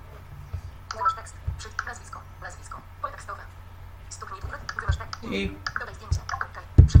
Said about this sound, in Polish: No i teraz Wam pokażę dokładnie, o który mi dźwięk chodzi. O! I teraz zapiszemy sobie tutaj imię. Klawiaturą, proszę bardzo.